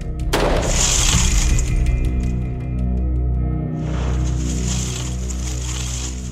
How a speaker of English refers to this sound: Just to see what the bullet hole would look like if the glass was already broken, like Virginia said it was. All right, range is hot. We had Officer Branion shoot the door again.